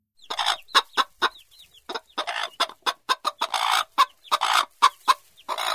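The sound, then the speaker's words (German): A hen clucks in a quick, uneven series of short clucks, some louder than others, with no talking. “Die Henne als sanfte Hüterin, als treusorgende Mutter einer Schar wuselnder Küken, als liebevolle Glucke, die die Kleinen schützend unter die Fittiche nimmt.”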